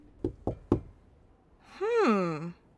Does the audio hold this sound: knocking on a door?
yes